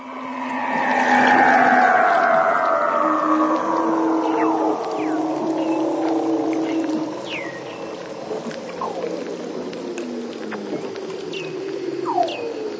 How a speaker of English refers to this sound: Here's a Weddell seal in the Antarctic.